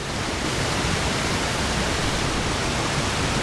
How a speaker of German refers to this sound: Davon, dass es am Aralsee zu wenig Wasser geben soll, ist am Kok-Aral-Damm in Kasachstan wenig zu sehen. Durch ein rund 50 Meter breites Wehr rauschen enorme Wassermassen, rund 300 Kubikmeter pro Sekunde.